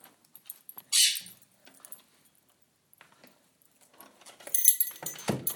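A bunch of keys taken from a door jingles: a short bright rattle early on, a few faint clinks, then a louder, longer jangling burst near the end as the right key is selected. No one speaks.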